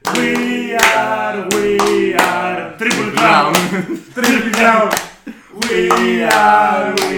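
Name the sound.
people clapping hands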